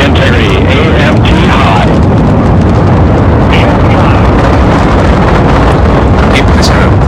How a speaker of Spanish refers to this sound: Estamos presenciando un lanzamiento exitoso del SLS desde la plataforma de lanzamiento